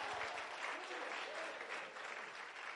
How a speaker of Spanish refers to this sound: Y si usted lo cree, dele mejor aplauso al Señor por eso.